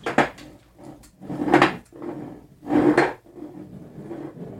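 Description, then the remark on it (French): A glass beer bottle rolls back and forth across a hard surface, making a hollow rumbling that swells and fades in three strong passes, with softer rolling between them and no voices. “Il faut la faire rouler, tu dis ? La faire rouler, oui.”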